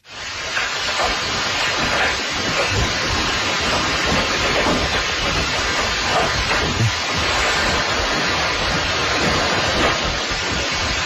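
An earthquake's continuous, loud roaring rumble fills the whole recording inside a house, a dense wash of deep low rumbling and hissy noise with faint rattles and knocks, steady throughout with no voices.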